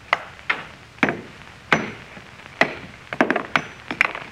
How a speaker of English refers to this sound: All I'm going to do is try and break it along this fissure. See, I got a hammer. Yeah. What if the stone will break? Almost solid metal. I'll try.